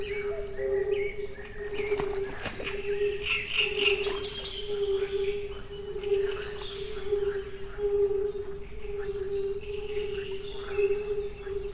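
Night creatures call continuously around a boat travelling slowly through deep, black swamp waters: a steady, droning insect or frog chorus holds one pitch throughout, while scattered higher chirps and calls come and go over a low, rumbling background.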